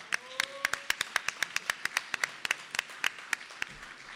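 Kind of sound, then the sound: crowd, studio audience applause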